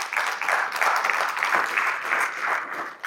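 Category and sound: crowd, applause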